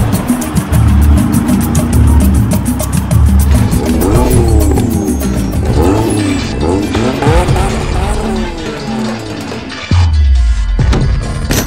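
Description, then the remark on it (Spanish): Engines of armored cars and three trucks approaching and surrounding people in Brazil rev and roar, their pitch sweeping up and down repeatedly, with a brief tire squeal amid the loud, continuous motor noise. “Carros blindados con hombres vestidos de negro se acercan a ellos. 3 camionetas los rodean.”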